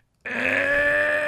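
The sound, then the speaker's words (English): A voice imitates a vehicle's rear differential grinding as the idling vehicle is put in drive: one sustained, steady, strained growl with a harmonic buzz, starting abruptly and holding for over a second. “That's the rear differential.”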